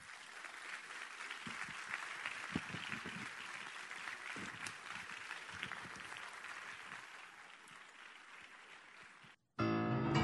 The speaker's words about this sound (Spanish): Llegan al escenario … junto a los maestros … en piano y … en bandoneón, y los recibimos con un gran aplauso.